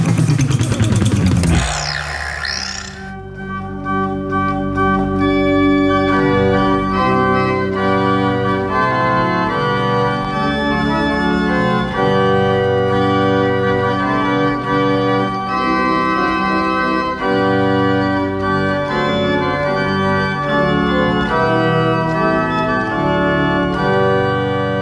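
A pipe organ played by an Estonian organist plays loud, sustained chords that shift slowly from one to the next, full and rich in low and high tones, after a brief burst of noisy sound at the start.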